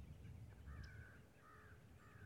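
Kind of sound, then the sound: bird, birds calling outdoors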